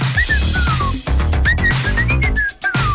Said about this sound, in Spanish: Porque esto fue un auténtico bombazo a principios de los 80. ¿Os acordáis del silbidito que hacía?